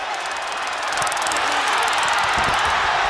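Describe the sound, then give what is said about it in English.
A stun gun clicks: a rapid, sharp electric crackling rattles for about two seconds over a loud, steady crowd roar with cheering, its fast clicks riding high above the noise before cutting off, as Scott Hall jabs it into Goldberg's midsection at a wrestling match. “You could hear it clicking. It was like a cattle prod or a stun gun.”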